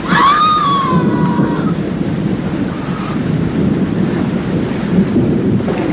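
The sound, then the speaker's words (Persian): Heavy rain pours steadily with a deep, continuous rumble of thunder underneath, loud throughout. A brief high-pitched wail rises over it at the very start. “بریم بابا خیش شده توی بارونی چون اینجا واسدیم.”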